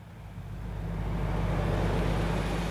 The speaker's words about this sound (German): Ein leerer Bus fährt vom leeren Flughafenterminal über leere Straßen vorbei an leeren Parkplätzen Richtung Koblenz.